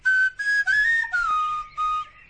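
A flute played clumsily: five short, shrill notes with wobbly, sliding pitch and breathy edges, each broken off by a brief gap, with no voices over it.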